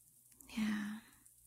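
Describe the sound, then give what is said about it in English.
Soft, steady rain hisses faintly in the background, with a brief low murmur rising over it midway through before fading back to the quiet patter. “The rain sounds so soothing.”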